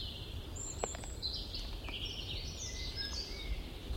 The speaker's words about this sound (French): On entend la grive au fond, les mésanges au-dessus.